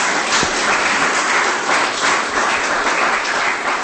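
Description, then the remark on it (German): Sustained audience applause for a professor after his talk, a dense, steady wash of many hands clapping at full volume for the whole stretch, with no voices over it. “Lieber Herr Professor, Sie hören es am Applaus, das hat uns alles sehr interessiert.”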